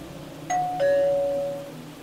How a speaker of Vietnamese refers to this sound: Là tiếng chuông cửa.